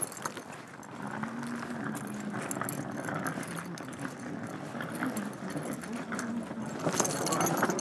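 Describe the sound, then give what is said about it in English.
Keys jangle and clink for several seconds, a busy run of small metallic rattles as they're pulled out, over a low steady background rumble. “Alright, oh, I'm just getting keys out.”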